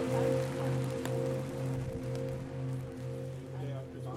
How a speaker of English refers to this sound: So now, I'm out. Look, there's so much to do in the rain.